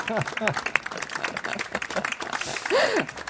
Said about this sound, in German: Der geht an einen Titel, der sehr charmant eine Beobachtung macht, die wir alle noch nie gemacht haben, aber unterschreiben können, nämlich an den Titel Am Tatort bleibt man ungern liegen. Beifall für den Jahresmops, würde ich sagen.